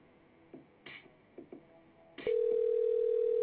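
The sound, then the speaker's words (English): A few short clicks and blips, then a steady, unbroken mid-pitched phone-line tone drones on loudly to the end, with no one picking up and no voices. “This nigga ain't gonna answer the phone, man.”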